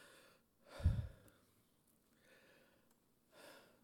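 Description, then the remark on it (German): A voice mimics heavy breathing: a strong, deep inhale-exhale near the start, then softer, airy breaths that trail off and return once more near the end. No words are spoken. “Sie atmen. Was atmen Sie eigentlich?”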